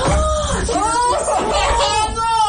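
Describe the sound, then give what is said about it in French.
Several voices scream and shriek together in shock and horror as a dish set on a kitchen counter is opened, a loud, overlapping burst, their pitches rising and falling for a couple of seconds, sustained without pause. “va l'ouvrir et vous allez entendre notre cri de choc d'horreur.”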